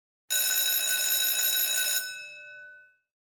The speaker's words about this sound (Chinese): 对不起，刚才是学校铃声，现在是休息时间。